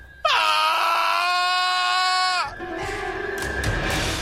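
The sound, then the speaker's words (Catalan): A voice lets out a loud, drawn-out scream of pain, held steady for about two seconds before breaking off abruptly, followed by faint rustling noise. “Quan el dimoni va sentir aquella fiblada, va fer un crit.”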